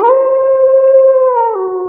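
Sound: wolf howling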